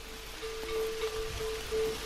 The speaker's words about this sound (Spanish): Escuchamos, entonces. Es de noche, rumor de agua, cencerros de ganado.